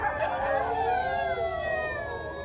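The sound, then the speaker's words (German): A chorus of sled dogs, chained at the edge of the town of Ilulissat, howls with hunger, many overlapping voices rising and wavering in long drawn-out tones, steady and fairly loud throughout with no one speaking. “Angekettet liegen sie am Stadtrand und jaulen vor Hunger.”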